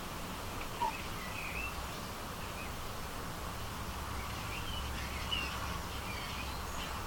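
A blackbird sings faintly in the distance, a few brief fluting phrases drifting over a steady hiss of outdoor background noise, with no one talking.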